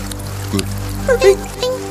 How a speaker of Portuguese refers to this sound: Um dia veio o trovão. E foram chegando os pingos.